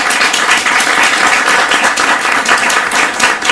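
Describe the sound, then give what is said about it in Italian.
A crowd at an evening literary event applauds steadily to welcome writer and game designer Lorenzo Sartori, dense overlapping claps forming a loud, continuous wash of sound with no voices over it. “Abbiamo qui con noi Lorenzo Sartori, un bel applauso.”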